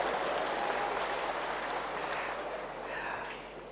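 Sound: audience clapping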